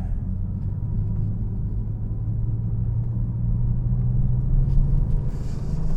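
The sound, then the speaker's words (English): A car's engine drones steadily, a low continuous rumble with a slight rise in pitch as it accelerates, entering a roundabout at 25 miles an hour in heavy traffic on roads slightly greasy from light rain, with no voices. “It's just too much traffic. Too much traffic.”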